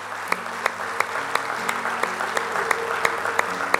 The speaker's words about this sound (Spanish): Si usted lo cree así, dale un aplauso fuerte al Señor.